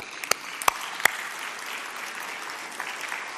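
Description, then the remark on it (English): A church audience applauding: a steady, fairly quiet wash of many hands clapping, with a few sharp claps standing out in the first second. “Because as I said, you can clap.”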